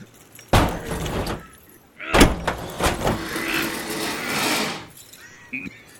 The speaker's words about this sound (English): There's a tire iron in the rig. Hold on. Let's pry back the door on the hinge. It looks like it's about to fall off anyway.